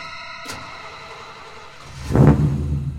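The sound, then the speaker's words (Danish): A car engine cranks and catches with a brief burst, then settles into a low, steady rumble, with no talking. “I samme moment manden starter bilen, tænder Lisa alle sine sanser. Bilen rumler, som et stort, sultent dyr.”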